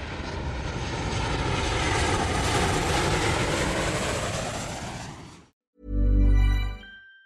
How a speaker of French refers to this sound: Avion?